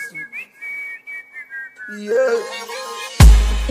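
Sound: whistle being blown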